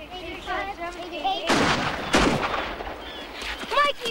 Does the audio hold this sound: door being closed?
no